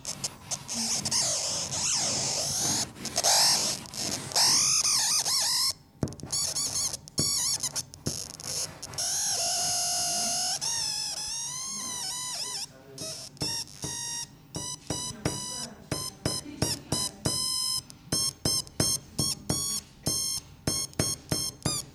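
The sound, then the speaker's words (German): Warbling electronic tones from a drawing made with a conductive pencil and a small amplifier bend and slide in pitch, shifting continuously at first, then break into rapid, choppy bursts of bright bleeps and squeaks as the drawing is touched and the circuit closes. Loud throughout, with no talking. “Wenn man dann etwas gemalt hat und die Zeichnung berührt, dann reagiert der Stift auf die Impulse und der Stromkreis schließt sich.”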